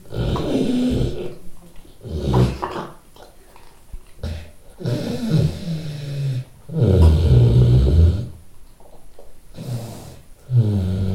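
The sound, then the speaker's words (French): A black Vietnamese pot-bellied sow snores loudly in her sleep, with deep, rumbling grunting snores repeating in an uneven rhythm, broken by short pauses and snuffling breaths. “Elle ronfle comme un vrai bonhomme.”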